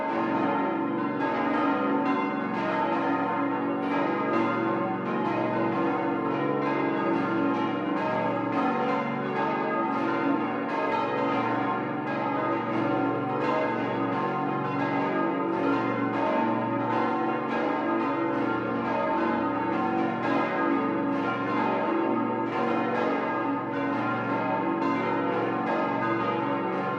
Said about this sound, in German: Wie vor 75 Jahren beginnt auch am heutigen Heiligen Abend diese besinnliche Zeitreise mit dem Glockengeläute aus dem oberbayerischen Kloster Ettal.